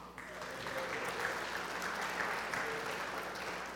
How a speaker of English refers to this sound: And they deserve a round of applause.